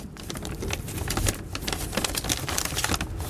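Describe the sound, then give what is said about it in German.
Continuous crinkling and rustling of paper as hands dig through a paper bag lying on a bed in a two-bed sleeper train compartment, with many sharp crackles and taps in quick irregular succession and no talking. “So, was ist denn in der schönen Tüte hier drin, die ich hier auf meinem Bett liegen habe?”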